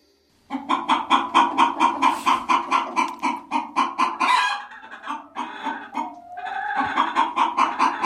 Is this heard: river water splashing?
no